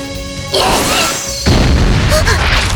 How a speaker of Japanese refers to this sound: 何？爆発？ 向こうはシローさんのログハウスがある方。